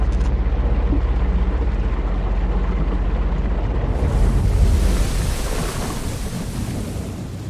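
A steady, deep roar of wind and sea around a boat in the middle of the open sea, then a louder rushing surge of strong waves partway through that stays full and hissing to the end. No voices.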